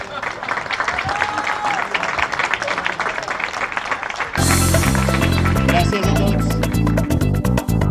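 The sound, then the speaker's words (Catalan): A crowd applauds the winner of the 25th edition of a xató-making contest with steady, dense, sustained clapping for several seconds, then loud music suddenly starts and carries on over the fading applause. “Un aplaudiment.”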